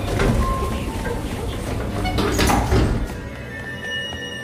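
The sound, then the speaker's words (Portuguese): Elevator doors slide shut with a steady mechanical rumble and rattle that swells, then cuts off abruptly, leaving a faint electrical hum with thin high tones. “Enquanto eu me aproximava, a porta do elevador começa a fechar.”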